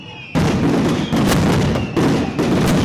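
Loud fireworks burst in quick succession at a street festival, set off by the residents of Calle del Medio in front of their chapel as a procession cross stops there, a dense crackling roar with repeated heavy booms, each blast running into the next with no pause between them.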